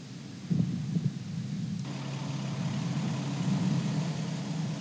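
A deep, continuous rocket engine roar rumbles steadily with a broad rushing hiss on top as a rocket lifts off carrying Scott Tingle, Anton Shkaplerov and Noroshihi Kanai to the International Space Station, growing slightly fuller partway through and holding loud to the end, with no voices.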